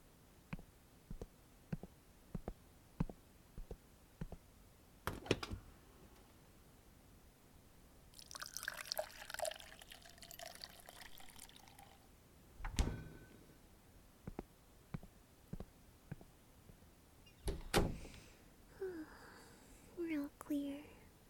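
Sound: getting water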